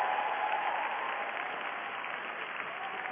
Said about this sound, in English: Thank you for clapping in my political gazebo material.